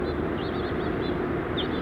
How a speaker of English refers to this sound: Bunch of house finches.